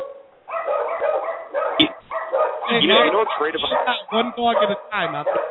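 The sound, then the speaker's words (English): Several dogs bark, yip and whine over one another during a phone call, in a continuous, overlapping clamor of high-pitched, tonal calls, with brief pauses between bursts; the sound is thin and band-limited. “I can't interview all the dogs at once.”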